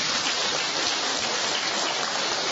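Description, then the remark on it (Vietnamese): A crowd breaks into a round of applause, a dense, steady wash of many hands clapping at an even loudness throughout, with no voices heard over it. “Chào mừng anh chị em, trước một tràng pháo tay thưa anh chị em.”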